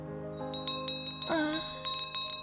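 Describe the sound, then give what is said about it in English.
Small bells jingle in quick, irregular shakes, their bright ringing tones overlapping and lingering between strikes, with no talking. “And I like my ringy little bells. Do you want to touch one?”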